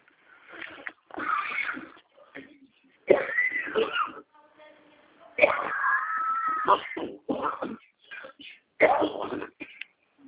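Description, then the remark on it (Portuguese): A loud fit of coughing in several harsh bursts, with short pauses between them and some strained, voiced sounds mixed in. “Deu uma tossinha aqui, mas não é Covid, não é cigarro.”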